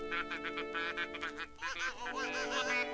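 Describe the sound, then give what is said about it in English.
Geese honking in quick succession, loud, their nasal calls overlapping at first and then drawing out into longer, wavering cries with no voices present. “When the geese have finished praying, I'll tell you the rest of the story”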